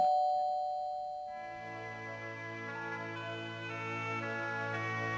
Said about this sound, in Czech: Už to zvoní. Už je to tady.